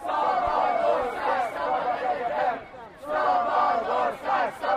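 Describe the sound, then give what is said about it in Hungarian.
A large crowd marching along Múzeum körút and into the LTBTK campus chants the slogan "Szabad ország, szabad egyetem!" (free country, free university) in unison, many voices loud and overlapping, with a brief lull just before the chant surges back at full strength. “Vissza is ért a tömeg, és most besétál az LTBTK kampuszára.”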